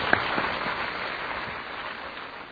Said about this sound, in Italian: E allora, ecco, abbiamo proprio così invitato e lo ringraziamo di aver accettato il nostro invito e vogliamo farti il nostro applauso, ecco, per aver accettato.